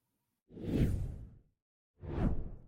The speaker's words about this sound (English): And now, after a brief special effect that we affectionately call the whoosh, his face will appear before us here at the FDD Morning Brief.